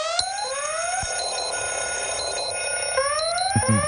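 An alarm clock rings loudly and continuously, a bright electronic tone with rising sweeps repeating, with no voices over it.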